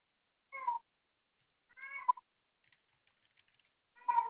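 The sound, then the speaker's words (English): A 20-year-old male Maine Coon cat meows three times at a slow pace, with short, tonal, slightly warbling calls spaced about 1.5 seconds apart. Faint tapping fills one of the gaps, and no one speaks. “He's my cat. He's 20 years old. And Maine Coons have the strangest meow.”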